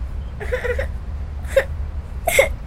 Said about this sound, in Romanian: Da, ce-i cu ea? A căzut și plânge. Hai să o ajutăm să se ridice.